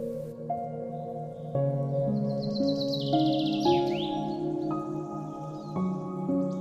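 birds chirping

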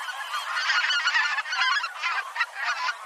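geese honking

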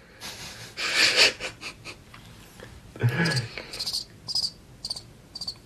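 crickets chirping

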